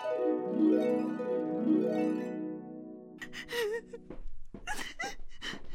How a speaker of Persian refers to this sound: تو اینه چی میکنی؟ تو برای چی گریه میکنی؟ چی شده برای چی گریه میکنی آخه؟